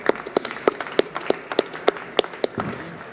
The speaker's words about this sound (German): Ganz großen Applaus.